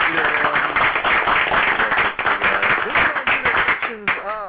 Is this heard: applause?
yes